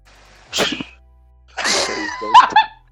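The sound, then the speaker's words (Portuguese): A capybara gives three short, sneeze-like huffs, the last ones ending in brief squeaky whistles. The calls are fairly loud and separated by a short silence, with no talking. “Mas a capivara faz um som bem semelhante a esse aqui, ó.”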